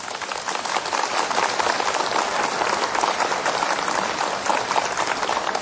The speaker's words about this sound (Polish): Jesteśmy w Tuchowie, w sanktuarium Matki Bożej Tuchowskiej, Pani Ziemi Tarnowskiej, gdzie gospodarzami tego miejsca są ojcowie i bracia redemptoryści. A zatem również i dla nich gorące i serdeczne oklaski.